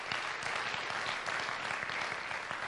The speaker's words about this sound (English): Has anybody ever been lifted up by the Lord? Why don't you clap your hands and thank the Lord for lifting you up and exalting you?